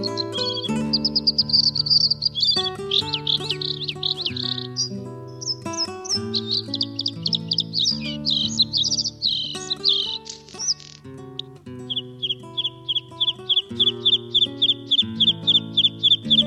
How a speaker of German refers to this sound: Das war das Blaukehlchen.